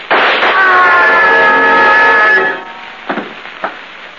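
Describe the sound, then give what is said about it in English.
A loud blast opens, followed by a long, steady high-pitched wail that fades out, then two sharp gunshots crack in quick succession, each dying away quickly. “I'll shoot. Bullets won't stop us.”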